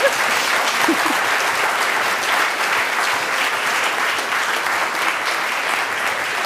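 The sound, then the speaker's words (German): Loud, sustained applause from a large live audience at the Kitchen Talk in the Basecamp, welcoming Katrin Bauerfeind onto the stage, a dense roar of clapping that stays steady for several seconds without any talking over it. “da die Hörer des Podcasts natürlich nicht wissen können, wie viele Leute hier auch vor Ort zuhören, würde ich Sie bitten, dass Sie Frau Bauerfeind mit einem tosenden Applaus hier willkommen heißen.”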